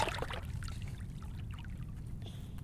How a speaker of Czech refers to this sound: Pomalu se dělají velký vlny. A teď se udělá vlna.